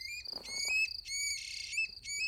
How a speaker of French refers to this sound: J'hésite. Une grive musicienne. Attends, Al, je te repasse son chant.